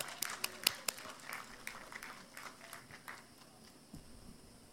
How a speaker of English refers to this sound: And so if we could have a big round of applause